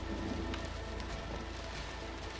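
light rain falling

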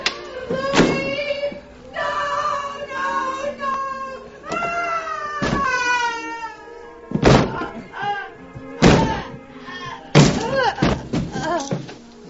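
door being broken down

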